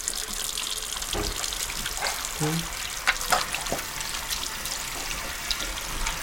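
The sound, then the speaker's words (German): Running tap water splashes steadily over hands, with soft slaps and rubbing sounds as a boy thoroughly washes his hands in an apartment before prayer, and a few brief clunks and knocks at the sink. “Aber als erstes muss man Hände waschen, so richtig sauber.”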